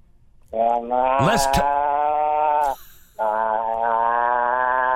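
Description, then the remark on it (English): A person imitates a cow mooing with two long, steady, buzzy vocal drones separated by a short pause, each held for about two seconds at a fairly loud, even level. “Well, I made some cows and their rancher a little nervous when I was out in the field with him, and I did the cow.”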